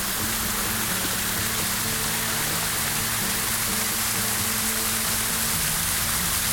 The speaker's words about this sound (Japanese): おお、噴水の音が、噴水というか滝みたいなのがありますね。涼しげです。